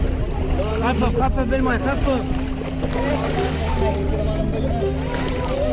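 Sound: boat crossing the sea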